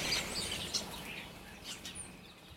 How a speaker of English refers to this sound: It is getting light now. Oh God, I can hear birds now. Fuck birds.